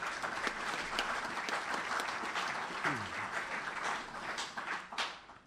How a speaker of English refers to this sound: So I think a round of applause for George, please.